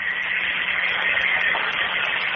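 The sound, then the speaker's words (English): A coffee machine runs with a steady, unbroken hiss and whir, a dense mechanical drone over a low hum that holds level for the whole stretch, with no voices. “What's that noise back there? That would be the coffee machine, sir.”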